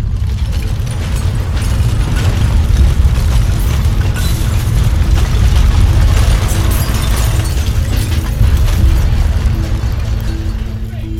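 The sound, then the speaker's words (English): A massive explosion in a village, blowing out the windows of a stable and a house, booms and rolls into a long, heavy rumble that stays loud and deep for the whole stretch, with a low droning hum running underneath. “My grandfather was in the stable when the explosion occurred.”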